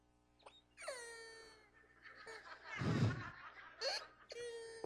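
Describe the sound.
A person's voice imitates a rooster crow with a few drawn-out, wavering vocal cries that rise and fall in pitch, fairly loud, with a breathy burst in the middle.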